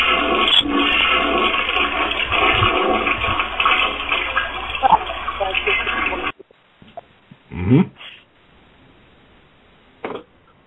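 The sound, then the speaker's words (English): A loud toilet flush sound effect, played from a button, rushes and gurgles for about six seconds, then cuts off abruptly, followed by a couple of brief thumps and a short noise burst in near silence. “Flush, you hear this sound.”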